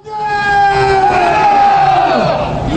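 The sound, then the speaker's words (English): A crowd of anti-North Korea demonstrators in Seoul, South Korea, shouting loudly in unison shortly after the news of Kim Jong-il's death, their voices merging into long, sustained cries that rise and then fall in pitch, with rough background clamor throughout. “Here's sound of anti-North Korea demonstrators in Seoul, South Korea, shortly after the news arrived of Kim Jong-il's death.”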